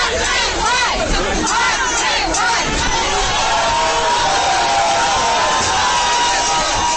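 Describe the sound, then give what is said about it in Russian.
A dense, loud crowd of protesters at a rally shouts and clamors, with overlapping yells and agitated voices surging continuously throughout, like a rowdy mob pressing forward, as it storms the closed doors of a Sedmoy Kontinent store. “Толпа направилась на штурм закрытых дверей.”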